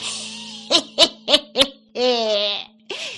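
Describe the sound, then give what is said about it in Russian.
A voice mimics an eagle owl's hooting: four quick, evenly spaced hoots, then a long, wavering drawn-out call and a short final hoot, fairly loud. “Эх, заухает филин в лесах на заре”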